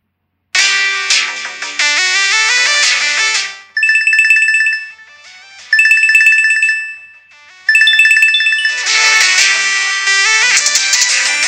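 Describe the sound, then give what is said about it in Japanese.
A loud electronic phone ringtone plays a bright, repeating chiming melody in short bursts, framed by fuller, busier background music passages before and after, with no talking; an example of background music dropping in volume while an incoming call's ringtone plays loudly. “なんか、BGM が流れてる時に、電話がかかってきた時に、その BGM が音量がビューって下がって、電話のリングトーンが大きく流れるっていうような音量の減少みたいなのがあって、そういうふうに優先順位決めましょうみたいな話ですね。”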